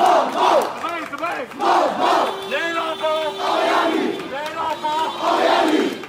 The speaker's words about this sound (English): In Myanmar's largest city and commercial hub, Yangon, drivers honked in support of protesters, chanting, "We want justice and down with dictatorship."